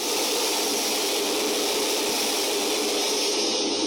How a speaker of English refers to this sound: As directed, Vala pressed the buttons to flush the airlock.